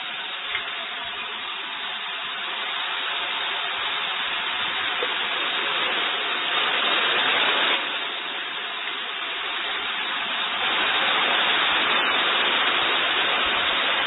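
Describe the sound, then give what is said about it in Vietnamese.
Heavy rain pours down during a Buddhist Dharma talk, in a steady, dense hiss that fills the whole clip, swelling slightly louder in places, with no voices over it. “Thôi nhưng mà mưa to thế này thì giảng làm sao mọi người nghe được.”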